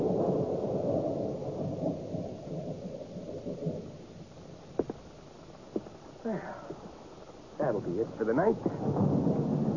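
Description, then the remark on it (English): A deep, rolling rumble of thunder fills the first few seconds, followed by a steady hiss of rain with a few sharp knocks, while voices murmur faintly near the end. “You got him in and out before the rain. Mind you, it was just by hair, but what the hell, huh?”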